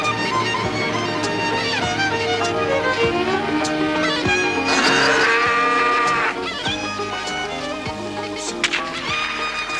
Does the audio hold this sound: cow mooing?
yes